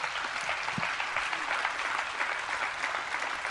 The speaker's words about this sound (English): Come on now, give God a hand clap.